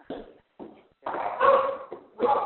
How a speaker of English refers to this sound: Dog is going crazy.